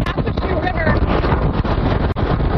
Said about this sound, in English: So here's what it sounds like to be in a hurricane.